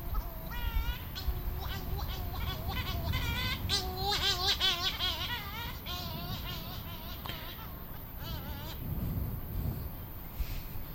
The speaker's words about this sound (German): Was hören wir da? Oh, ich hab hier. Möwen. Ne?